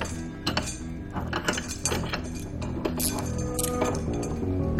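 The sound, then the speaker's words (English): Handcuffs ratchet shut against a metal radiator, a series of quick metallic clicks and clinks, repeated irregularly over a steady background hum, with no talking. “Cuff yourself to the radiator.”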